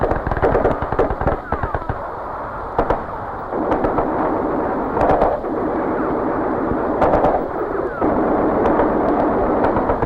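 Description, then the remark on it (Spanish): Sharp gunshots from snipers and soldiers firing on a crowd of protesters at the Plaza de las Tres Culturas in Tlatelolco, Mexico City, crack out in irregular bursts, some rapid and some single, over a constant rumbling, noisy background with what sounds like voices from the crowd. “Los soldados respondieron a esos disparos, pero lo hicieron apuntando con sus armas a la multitud.”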